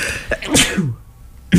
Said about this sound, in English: Thanks. Gesundheit. Thank you kindly.